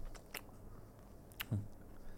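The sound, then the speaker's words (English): Quiet, wet chewing of a juicy fruit with a large stone, eaten whole, with a few sharp squelching bites and one heavier soft thud, no voices. “It's me, juicy, isn't it? Oh, there's an awfully big stone.”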